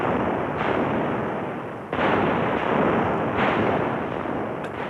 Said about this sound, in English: The noise of a cannon covers 600 feet in a space of half a second.